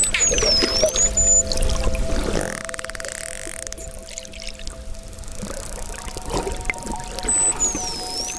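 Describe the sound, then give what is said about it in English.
Muffled underwater recording of dolphins swimming during a scarf dance, with deep rumbling, gurgling bursts and a steady low hum, plus faint high whistling sweeps near the start and end. No one speaks. “This is what it sounds like underwater.”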